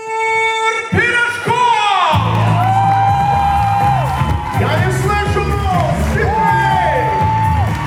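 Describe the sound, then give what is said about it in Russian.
A large concert audience in Australia cheers loudly and continuously, giving an ovation, with high rising whoops, yells and shouts standing out over a dense roar of applause and noise. “Ну и, конечно, овациями встретили”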